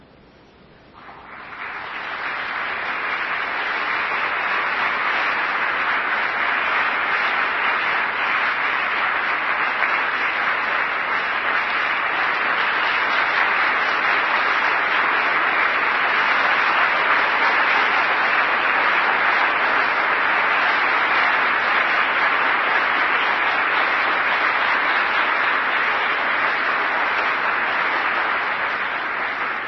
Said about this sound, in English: I didn't mean to entertain you to be applauded or for applause.